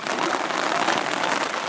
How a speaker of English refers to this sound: It started to rain here. Let's pack it up.